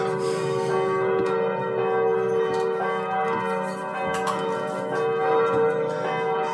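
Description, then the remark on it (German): Several church bells peal together in a dense, continuous clang, their long overlapping tones ringing loud and steady throughout with fresh strikes every second or so, and no voices present. “Ich verstehe kein Wort, ich höre nur Glocken.”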